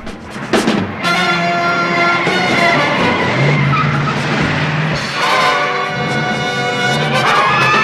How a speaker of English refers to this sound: The two cars squeal around a corner at high speed on the empty city streets. The looters drive up a concrete access ramp with the police car right up behind them.